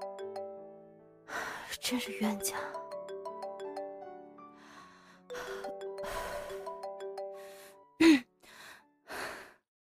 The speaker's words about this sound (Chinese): 啊，是他的电话